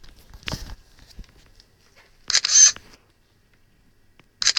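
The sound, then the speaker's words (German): A reading device's camera clicks and whirs in short, crisp bursts as it captures a household bottle of dishwashing liquid in a kitchen, with a few soft handling taps and rustles between the captures, fairly loud. “Ich bin rübergegangen in die Küche und werde jetzt hier mal schauen, was dieses Gerät mit einer Flasche aus dem Bereich Haushalt und Drogerie und so weiter macht. Schnelles Lesen. Kamera bereit.”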